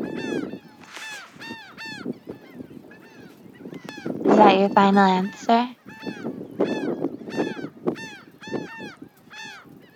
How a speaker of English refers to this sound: Close, and yeah, it's Seabirds and Wind, recorded on an iPhone 16.